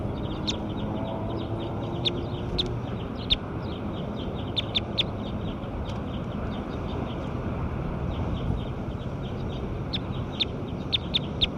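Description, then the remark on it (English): Repeated short, sharp bird calls sound at irregular intervals over a steady low rumble of background noise, with no talking. “Bird eight.”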